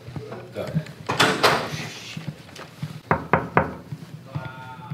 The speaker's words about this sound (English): Wow, knocked immediately.